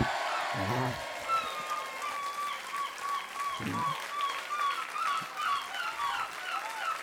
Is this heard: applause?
yes